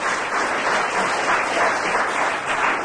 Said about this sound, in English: Will you welcome the late, great Charles Dickinson Jones, author of Tale of Two Settees, Fire Great Expectations, Candlewick Papers, Bleak House and Garden. Oh, and applause.